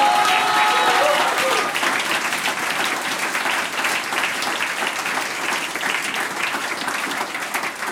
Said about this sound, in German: Radiopremiere heute für die … da aus Trofeiach. Großartig, das ist euer Applaus.